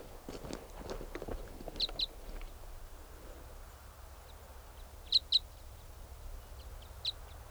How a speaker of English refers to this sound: There's another type 5 bird around, calling in response to 395, who's loud there. And this bird might come in.